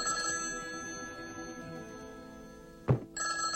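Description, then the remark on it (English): A telephone rings steadily with a bright, continuous trill, interrupted near the end by a brief dull knock before the ringing carries on. No one speaks. “Charlie puts down his book and goes to the phone.”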